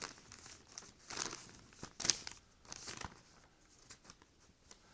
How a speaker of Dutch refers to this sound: Ik moet even wat papier pakken hoor.